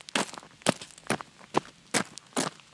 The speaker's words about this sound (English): That's my feet walking on rocks.